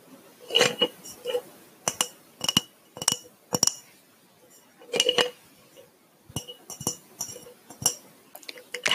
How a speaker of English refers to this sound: A glass mason jar.